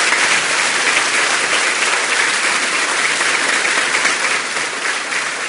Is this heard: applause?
yes